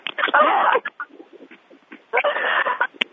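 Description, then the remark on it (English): A bird chirps and squawks in two loud, busy bursts over a thin, band-limited conference-call phone line, with quieter scattered chirps in the gap between them. “Does somebody have a bird? It sounds like a bird, doesn't it?”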